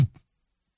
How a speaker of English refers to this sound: That's the guy hitting the floor.